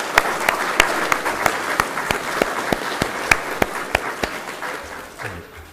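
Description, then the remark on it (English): An audience at an evening meeting applauds the girls and boys for their singing, clapping for several seconds in a dense wash with a few sharper claps standing out at a steady pace, before it tapers off and fades at the end. “I think actually we maybe should give the girls and boys a nice wee round of applause for all they've done tonight.”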